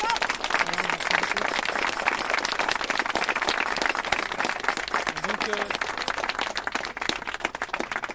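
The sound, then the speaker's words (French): A crowd applauds the staff of the Café de la Plage steadily for about eight seconds, a dense, even patter of many hands clapping at constant loudness, with a few voices faintly audible beneath. “On peut applaudir les gens du Café de la Plage qui nous ont apporté beaucoup de bonheur.”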